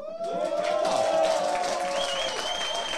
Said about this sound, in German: Das klingt gut. Und ich sehe auch, dass da hinten kräftig applaudiert wird.